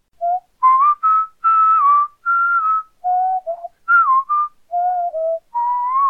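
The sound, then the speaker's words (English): A single person whistles a slow, stately melody, the Bach chorale tune Wachet auf, the clear notes rising and falling in short phrases separated by brief pauses, with no talking. “I tried to play it as I'd always whistled it, but quickly realized, hang on, that tune starts on an upbeat.”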